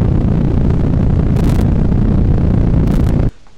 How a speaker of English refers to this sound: Ignition sequence starts. 6, 5, 4, 3, 2, 1, 0. All engines running. Liftoff. We have liftoff.